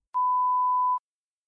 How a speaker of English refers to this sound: When you hear a beep